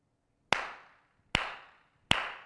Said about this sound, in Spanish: ¿Cuántos aplausos dije? Al tercero, al tercero.